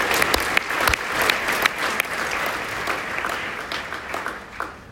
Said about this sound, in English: clap it up for the current forward mastermind.